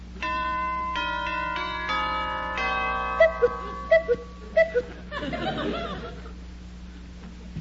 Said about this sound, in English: Gold doorknobs, mother of pearl nameplate, and a mink doormat. Whew. I guess I'll ring the bell.